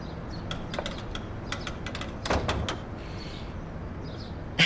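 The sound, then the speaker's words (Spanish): A door is closed: scattered light clicks and rattles from the latch, then a louder thump around the middle and a sharp knock at the end, with no talking. “Vamos a cerrar la puerta.”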